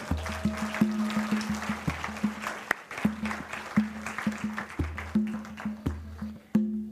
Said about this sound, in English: Can we have a round of applause for our...